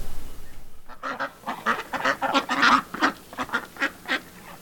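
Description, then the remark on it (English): Geese honking in a rapid, overlapping chorus, a dozen or more harsh calls tumbling over one another, loud, with no talking. “Come on, geese! Come on!”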